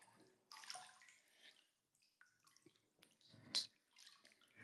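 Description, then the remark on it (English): Water sloshes and splashes in a bathtub of lukewarm water in Japan, with soft irregular swishes and a brighter splash near the end, with no talking. “Because the water feels lukewarm, I feel like I could stay in here all day.”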